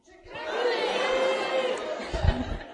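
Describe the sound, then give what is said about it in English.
An audience at a presentation yells a silly word together in unison, a loud sustained group shout lasting about two seconds, ending with a low thump and some scattered noise. “What if And if you've ever had this thought, I want you to yell that silly word.”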